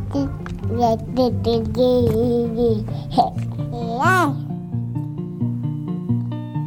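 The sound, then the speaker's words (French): A baby babbles and coos in a string of short vocal sounds, with one high rising squeal midway, over a soft, steady low tone. “je vous propose de vous mettre à l'écoute des bébés.”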